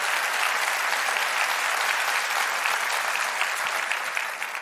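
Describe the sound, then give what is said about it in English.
A church audience breaks into sustained, loud applause as praise to God, a dense steady wash of clapping that holds for several seconds before tapering slightly at the end, with no voices over it. “Can we give God better praise than that?”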